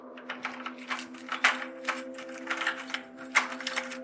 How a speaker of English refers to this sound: When she heard the keys jangling, Mary sat bolt upright on the bed, pulling the duvet close around her.